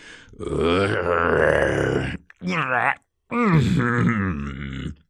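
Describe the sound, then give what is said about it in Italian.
A human voice imitates a troll's heavy, effortful grunting, groaning and panting in three strained, loud bursts, with brief pauses between them, as the troll drags a tree along a driveway. “Grugnì mentre trascinava l'albero ansimando.”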